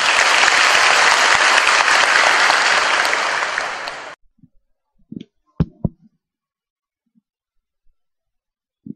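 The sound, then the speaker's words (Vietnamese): A crowd applauds loudly and steadily for about four seconds to welcome a volunteer storyteller, then the clapping stops abruptly, leaving a few scattered soft thumps and brief noises in near silence. “Chúng ta cho một tràng pháo tay.”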